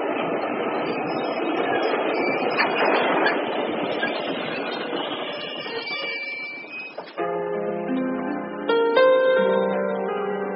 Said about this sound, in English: And now let us stop these trains.